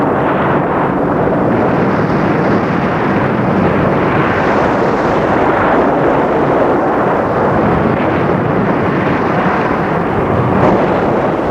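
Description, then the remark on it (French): A violent thunderstorm with rain roars steadily and loudly, a dense wash of rumbling noise that never lets up for the whole stretch, with no voices present. “Mais comme avant, il fallait atteindre la fin de l'orage, car la pluie, le tonnerre, les éclairs étaient d'une violence extrême.”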